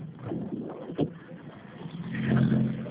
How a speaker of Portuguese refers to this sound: Eu estava dirigindo, parei o carro agora.